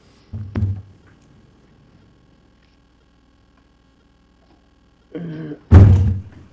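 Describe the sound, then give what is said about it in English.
A heavy wooden thunk, a few seconds of quiet, then a short scraping drag ending in a loud thud, like a chair being pulled across the floor and set down, as Police Bureau staff pull up a chair at a meeting before the mayor and commissioners. “Pull up another chair if you need one there.”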